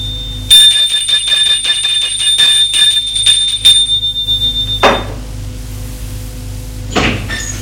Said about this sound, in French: Il sonne à la porte.